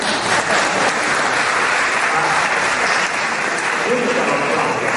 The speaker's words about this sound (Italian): merita un applauso.